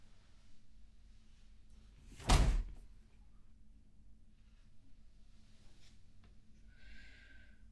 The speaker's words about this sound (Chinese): 他摔门了，我没有故意要顶他。